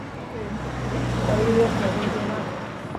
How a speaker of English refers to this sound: We found out that we can hear a lot of car engine rumbles and a lot of other different kind of noise, because this the auditorium where we did all the recording, it doesn't have any soundproof door that cover the outside part.